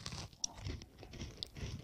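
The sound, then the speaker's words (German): Crunchy chewing, with a steady rhythm of crisp, brittle bites and muffled jaw thumps repeating about twice a second. The sound is quiet and there is no talking. “Es knirscht mehr beim Essen.”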